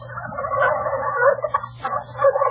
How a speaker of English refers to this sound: Well, it's the bird that you slice on Thanksgiving Day. A turkey. That's right.